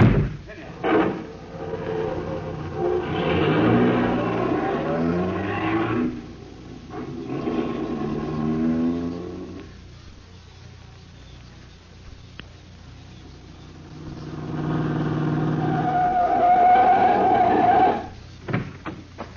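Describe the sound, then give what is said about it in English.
Several sharp thumps like car doors slamming, with a loud, surging engine roar between them that revs up, fades, then swells again as the car pulls away. “All right, in the car, you two. Hurry it up.”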